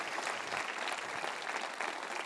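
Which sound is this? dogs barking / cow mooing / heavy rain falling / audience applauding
audience applauding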